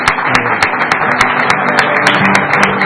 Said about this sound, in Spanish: Bueno, pues muchas gracias. Un aplauso